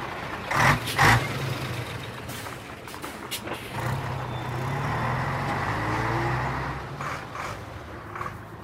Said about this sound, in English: We've got trucks arriving. Coming in at the moment is an Albion LTE 197Y, which is from Drummond's fleet, as indeed is this one, JVA 26.